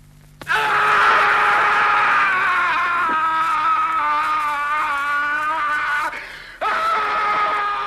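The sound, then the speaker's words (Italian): A man, Franco Citti playing Edipo in Pier Paolo Pasolini's film Edipo Re, screams loudly in one long, anguished, wavering cry that lasts several seconds, breaks off for a moment, then starts again. “Interpreti Edipo Franco Citti, quello che urla.”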